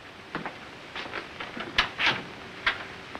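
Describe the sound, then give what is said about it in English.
A door being opened: a string of soft clicks and rattles from the handle and latch, then a few sharper knocks and a brief scraping swish, with no voices. “With a nod, he heads for the door and opens it.”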